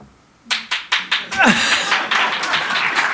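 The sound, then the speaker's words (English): A few separate, sharp hand claps quickly swell into steady, dense audience applause that carries on loudly to the end, with voices mixed into the crowd noise. “I really wasn't waiting for applause.”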